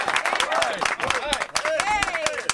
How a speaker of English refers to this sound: There he is. The great Andy Furman joining us here on Fox Sports Radio. Round of applause for Andy Furman. How about that?